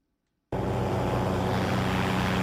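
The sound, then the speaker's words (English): After a brief silence, a drone's steady buzzing whine cuts in abruptly and holds loud, with a constant humming pitch and no voices; the drone ferries blood samples to a laboratory for HIV testing in Malawi. “Drones may soon be carrying blood samples to faraway laboratories for testing.”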